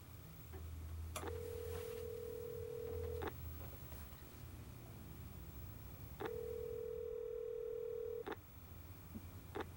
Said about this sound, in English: Later, at her apartment, Laura makes a phone call.